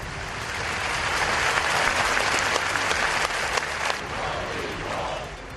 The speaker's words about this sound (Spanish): Allí, junto al rey Felipe VI, el presidente Mariano Rajoy o el presidente de la Generalitat, Carles Puigdemont, han guardado un minuto de silencio que ha acabado en un sonoro aplauso.